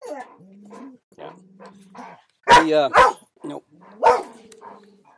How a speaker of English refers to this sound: The one dog barks, the other dog doesn't know what he's barking at. He's barking at the cat, the other dog's barking.